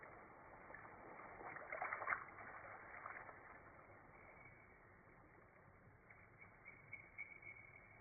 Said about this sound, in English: Then he wades through the shallows and into the woods.